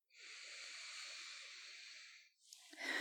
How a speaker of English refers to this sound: Again, breathe in through your nose. One, two, three. Good. Yeah. Your lungs sound nice and strong. Okay. You can keep breathing just to let your body relax.